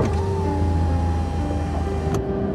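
A driver stopped by a police officer for running a red light closes his car's power window. The motor whines steadily for about two seconds over a low engine rumble, then stops with a soft thunk as the glass seals shut.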